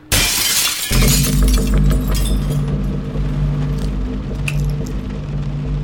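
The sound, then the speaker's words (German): An intruder smashes the glass pane of a terrace door with a loud, bright crash and scattered tinkling shards in the first second, then a steady low droning hum carries on to the end. No one speaks. “Er hat die Scheibe eingeschlagen, die Tür von innen aufgeschlossen.”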